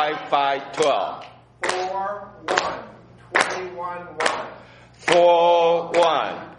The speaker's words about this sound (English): So to help you remember, I want to do it like this. We're going to clap and we're going to say the numbers. That way, I'll say them and then I want you to repeat them, okay? So clap with me like this.